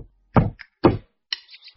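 Two loud knocks on a front door, about half a second apart, followed by a faint high-pitched scraping or rustling.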